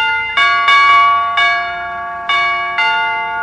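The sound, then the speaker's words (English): Newly rewired door chimes, buzzed from outside the door, ring out in a series of bright, bell-like tones, five struck notes over a few seconds with uneven timing, each one loud and ringing on with a sustained shimmer. No voices. “I don't suppose you've got those door chimes fixed yet, McGee, have you?”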